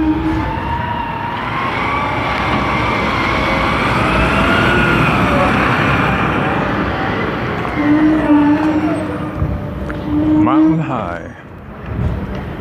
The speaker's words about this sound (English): Oh, trash truck coming. Is he gonna make this turn? Yes, he is.